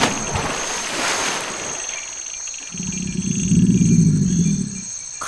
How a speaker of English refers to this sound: Crocodiles? Swim! Swim for your life!